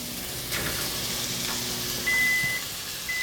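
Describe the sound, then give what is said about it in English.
Garlic and peppers sizzle in a pan with a steady, crackling hiss throughout, while a thin, high electronic beep sounds twice near the end. “Oh, that's the sound that dinner's almost on the table.”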